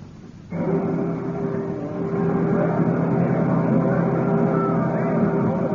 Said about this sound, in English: What a lovely boat. I wish you were going along, too.